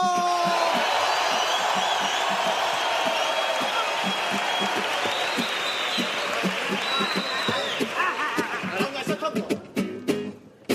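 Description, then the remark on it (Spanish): The Falla audience, acting as jury, bursts into loud, dense applause mixed with whoops and cheering to vote for the winner of a rap battle, holding steady for several seconds before thinning out into scattered individual claps at the end. “Que aplaudan los que crean que el ganador debe ser el Anuel del Puerto 3.”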